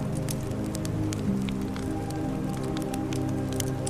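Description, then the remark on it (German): Steady, continuous rush of flowing river water with scattered splashes and drips, even in loudness throughout, no voices, beneath a low droning hum; the wind has died down. “Der Wind hat sich gelegt, der Fluss rauscht gleichmäßig.”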